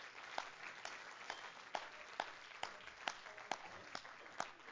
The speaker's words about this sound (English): Let's clap our hands for the cleansing of the Word, shall we? Hallelujah!